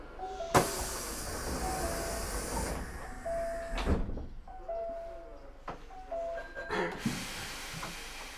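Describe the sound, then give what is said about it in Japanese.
The doors of a Japanese commuter express train slide shut with sharp rushing thumps and a hiss of air amid busy platform noise, with a few soft tones and muffled voices in the background; the next stop is Nishinomiya-Kitaguchi. “まもなく扉が閉まります。”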